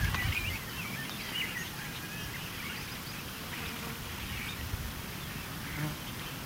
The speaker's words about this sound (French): J'espère que vous allez entendre. J'essaie de vous faire entendre le concert des oiseaux. Il y en a beaucoup, il y en a plein. Ils font des petits bruits assez rigolos.